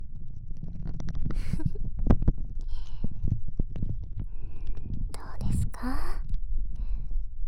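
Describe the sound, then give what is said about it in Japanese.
Wet, squelching crackles of cream foaming as it is rubbed in with fingers, a dense stream of small bubbly pops and smacks over a low rumble, with brief hissy bursts standing out midway. “指の感触に加えて、このクリームが泡立つ音もゾクゾクしませんか？”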